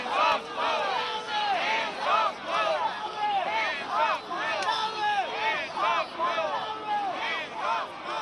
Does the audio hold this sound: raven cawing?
no